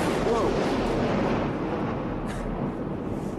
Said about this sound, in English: That was a rather large explosion.